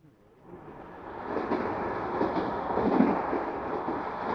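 A train runs along the rails, its steady rumbling roar rising quickly from quiet and then holding loud and continuous, with no voices over it.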